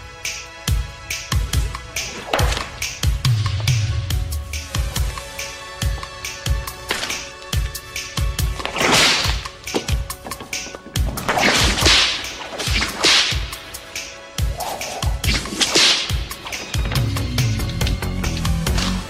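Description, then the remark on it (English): Rapid, sharp whip cracks snap again and again with hard impacts as Catwoman whips off the heads of four mannequins in a movie scene, some cracks followed by whooshing swishes, loud in a busy, energetic sequence without talking. “In this scene, Catwoman wants to whip off the heads of four mannequins.”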